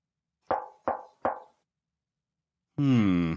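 Three firm, evenly spaced knocks on a genie's lamp ring out, each with a short hollow decay, then after a pause a long, low, buzzy vocal groan takes over.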